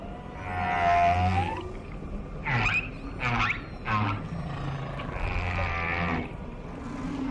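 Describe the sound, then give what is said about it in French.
Song of male humpback whales in Hawaiian waters: long, eerie tonal moans and rising whoops with harmonic sweeps, several repetitive phrases in sequence over a low rumbling underwater background, fairly loud, no speech. “Tous les mâles dans les eaux hawaïennes entonnent la même chanson qui évolue au fil du temps.”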